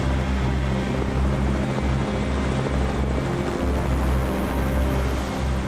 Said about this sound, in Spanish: El helicóptero se desvaneció y se marchó.